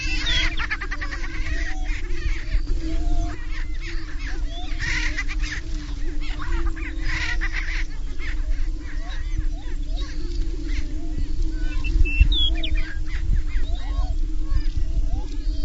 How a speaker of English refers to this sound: For those of you who don't know what a prairie chicken sounds like, here's what a prairie chicken sounds like.